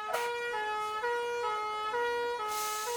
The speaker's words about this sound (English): Soon they hear the siren. Then the fire engine roars up the road and into the farmyard.